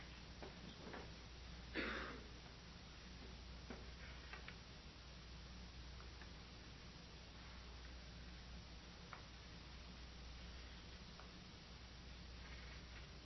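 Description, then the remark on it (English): Faint, sparse taps and short scratchy strokes of chalk on a blackboard, irregularly spaced over a quiet hum, with one slightly louder scrape near the start and no talking. “Let's see if I have a good piece of chalk here.”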